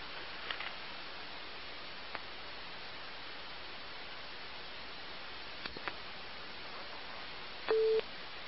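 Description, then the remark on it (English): A single short call-waiting beep sounds on a hissy phone line near the end as another call comes in. It is a steady mid-pitched tone lasting under half a second, with a few faint clicks earlier and no talking. “Hold on, somebody called again. I'm gonna let it beep again, okay?”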